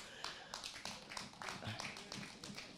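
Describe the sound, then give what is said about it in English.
An audience claps in a loose, scattered patter of overlapping hand claps for a few seconds, fairly quiet, with faint voices murmuring underneath. “You guys, I'm not too sure how genuine you are when you start clapping like that.”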